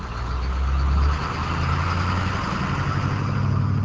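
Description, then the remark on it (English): An old yellow school bus carrying about 50 farm workers arrives at a chili field near Hatch; its large engine rumbles steadily, the deep droning note dropping after a second as it slows, with a constant broad mechanical roar and no voices. “2 hours later, this old yellow school bus with about 50 workers on board arrives at a chili field near Hatch.”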